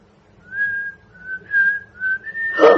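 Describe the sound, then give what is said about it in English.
A person whistles a short melodic tune, several sustained notes gliding between pitches, ending with a brief breathy burst of noise. “Let me whistle it to you.”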